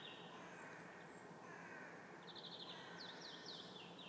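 Birds call outdoors over a steady, noisy background, with repeated short chirping bursts and a few harsh caws.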